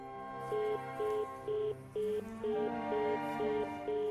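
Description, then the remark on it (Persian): A telephone line going dead: about eight short electronic beeps repeat evenly every half second, moderately loud, over a steady tonal hum in the background. “تلفن قطع شد”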